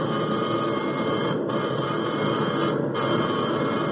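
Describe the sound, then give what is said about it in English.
An aircraft's alarm bell rings continuously in a rapid, harsh metallic clatter, steady and loud, broken only by two brief dips in intensity, sounded as the plane's number four engine is on fire. No voices are heard. “Yeah, well, here goes for the alarm bell.”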